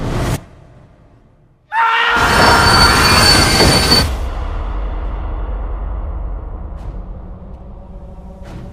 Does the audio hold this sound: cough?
no